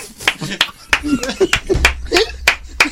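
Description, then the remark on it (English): About seven sharp, bright hand claps land at an uneven pace over three seconds, mixed in with someone talking and laughing underneath. “I'm still clapping over blending.”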